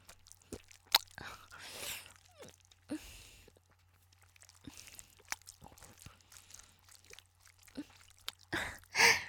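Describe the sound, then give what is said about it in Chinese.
Wet, irregular chewing and biting on spicy, round red crayfish meat, with sharp crunchy clicks scattered among softer mouth noises and breathy exhales, ending in a louder burst of crunching. “这个红肉越吃越大，啊不，是越吃越多了。”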